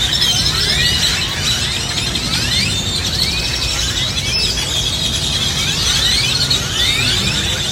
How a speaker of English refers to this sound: If so, you are either living in Austin, Texas, or you just went to the South by Southwest. The birds are making that noise every evening in the streets in Austin before the humans take over.